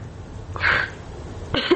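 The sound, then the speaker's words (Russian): A slightly ill woman coughs and clears her throat in two short, raspy bursts separated by a brief pause, moderately loud, with no talking. “поэтому давайте я пока она откашляется, расскажу.”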